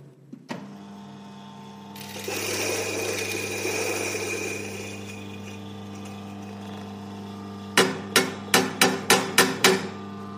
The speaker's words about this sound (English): So we're going to grind this coffee up for paper filter. Away we go.